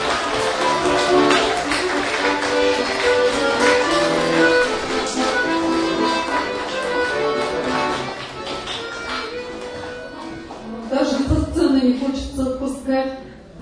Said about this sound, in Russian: Под аплодисменты и под музыку.